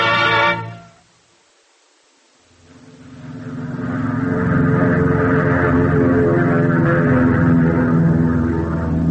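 After a short silence, the droning roar of an airplane engine in flight in October 1945 fades in and swells to a loud, steady hum, a low rumbling drone with a throbbing mechanical tone.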